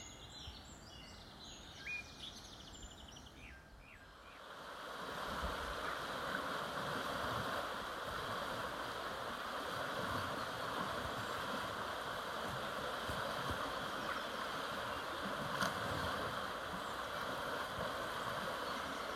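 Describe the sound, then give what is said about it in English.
Birds chirp briefly over a quiet background, then a steady, loud rush of the flowing water of the River Wharfe, near Bolton Abbey Village, swells in and continues without a break, with faint birdsong still audible above it. “Well, we've just crossed the River Wharfe for the final time as we head back towards Bolton Abbey Village.”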